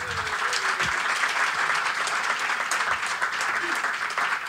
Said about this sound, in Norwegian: Stor applaus for han kødden der.